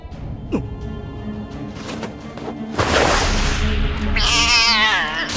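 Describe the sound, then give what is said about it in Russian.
A cat that has just killed a puppy yowls and caterwauls loudly, with wavering, drawn-out wails rising in pitch near the end, amid a sharp whooshing burst of noise. “Какой ужас! Кот загрыз щенка!”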